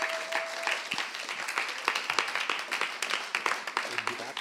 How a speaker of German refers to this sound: Und wir wollen den Randy mit einem herzlichen Applaus auf der Bühne willkommen heißen.